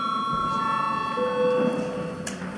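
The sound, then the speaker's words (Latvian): A parliamentary voting bell, called for before a vote on the eighth proposal, rings as a steady electronic tone, sustained throughout with several layered pitches and a lower note joining partway, over a low murmur of background noise. “Lūdzu zvanu. Balsosim par astoto priekšlikumu.”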